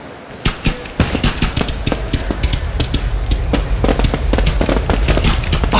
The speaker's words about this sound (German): Wow, cool. Ein Feuerwerk mitten in der Halle. Ja. Also, da sind Spezialisten am Werk.